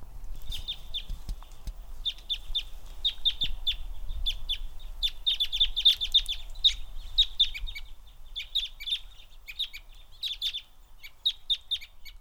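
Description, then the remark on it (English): Crossbills at Fayetteville Country Club give sharp, high kip calls in quick clusters of two or three, repeating steadily throughout. The calls sound clear over a faint low background rumble, with no talking. “Matt Young has analyzed my audio recordings of Fayetteville Country Club crossbills.”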